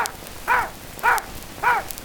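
A dog named Toby, asked to count four, barks three times at an even, unhurried pace, each bark short and clear against a faint background hiss, with no talking in between.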